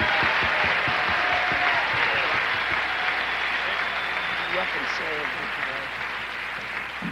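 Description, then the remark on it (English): A crowd bursts into sustained applause for a country singer, a dense, steady wash of many hands clapping that holds loud throughout, with faint voices and a few cheers mixed in. “Give him a nice round of applause, if you will.”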